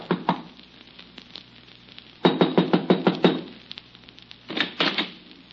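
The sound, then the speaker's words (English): Knocking on the locked wooden door of a little rented shack, a quick series of about six sharp raps, a pause, then a shorter second round of knocks, with a faint steady hiss behind them. “I tried the door, but it was locked, so there was nothing for me to do except knock.”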